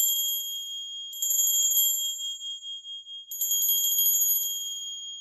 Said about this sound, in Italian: Dopo qualche minuto sento ancora scampanellare.